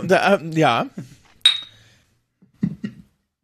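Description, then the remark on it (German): Wine glasses clink once in a toast, a bright ring that decays over about half a second, preceded by voices and followed by a few soft murmurs. “Ja gut, was meinst du, wieso ich so viel schlechten Wein hier habe? Ich erkenne hier ein Muster. Warum bin ich nochmal da? Prost übrigens, Prost.”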